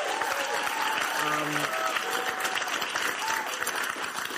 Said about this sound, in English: And I see not everyone applauding because that's just true.